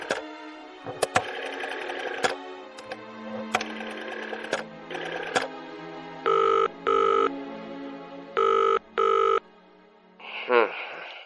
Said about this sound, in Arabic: الهاتف الحكومي الأسود البارد. أدير القرص.